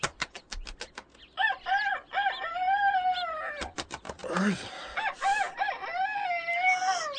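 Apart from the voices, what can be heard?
rooster crowing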